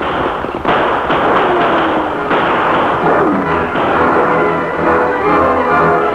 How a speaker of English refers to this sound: Blackie Norton and his men had almost reached the boat, moving in two groups of threes toward each end, when the signal shots fired by the Lone Ranger and Tonto startled them.